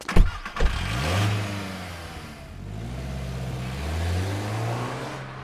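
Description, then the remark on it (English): A few sharp clunks, then a car engine turns over and catches, revving up and rising and falling in pitch as the vehicle pulls away, steady, with no voices. “and I head back to the car.”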